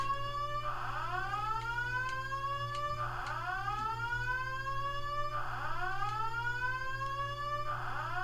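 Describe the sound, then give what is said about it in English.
A fire alarm sounds continuously at 6 a.m., a rising whooping tone that repeats roughly every two and a half seconds, steady and fairly loud over a low background hum, with no voices. “And the time to go with the fire alarm is 6 a.m.”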